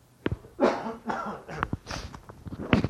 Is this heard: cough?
yes